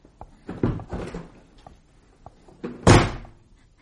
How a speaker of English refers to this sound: It had become an art, slamming the door so fast that she hadn't time to answer.